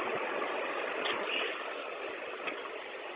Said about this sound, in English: and I pulled over, and the doors wouldn't open, so I turned it off, turned it back on. Bus is running, but the doors won't open or close.